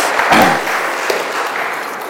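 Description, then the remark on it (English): An audience breaks into a steady round of applause, many hands clapping together in a dense, even wash of sound that stays loud for the whole stretch. “I think you give yourselves a round of applause.”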